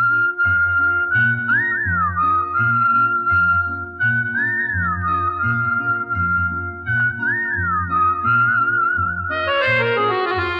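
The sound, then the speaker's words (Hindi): A clear, loud whistled melody with wavering, trilled phrases that recur every few seconds over a steady rhythmic musical backing, ending with a brighter flourish; no one speaks. “अगर वो कुछ बोले तो मुंह से फूल झड़ते हैं, लेकिन वो बात कम करती है, सीटी ज्यादा बजाती है।”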